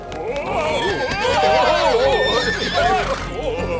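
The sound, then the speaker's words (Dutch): Several horses whinny loudly and repeatedly, their wavering neighs overlapping across the whole stretch, with faint hoof clatter and murmuring voices underneath. “De 3 ruiters stegen met paard en al op.”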